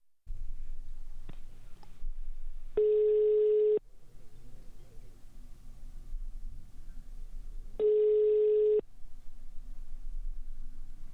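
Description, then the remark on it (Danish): Two steady voicemail tones after a Danish voicemail greeting asking the caller to leave a message after the tone, each lasting about a second and spaced several seconds apart, sound loud and clear over a low, hissy phone-line background. “Jens Kramer kan ikke besvare dit opkald. Indtal venligst en besked efter tonen.”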